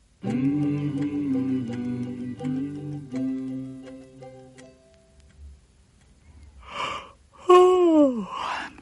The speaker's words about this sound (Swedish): Lillebror var trött och gäspade.